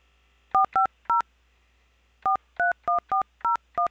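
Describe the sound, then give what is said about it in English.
Ten short, clear phone keypad tones are dialed as a 10-digit phone number is keyed into an automated phone line, three in quick succession, then a pause, then seven more in a steady rhythm. No voices are heard. “Next, please say or key in your 10-digit phone number.”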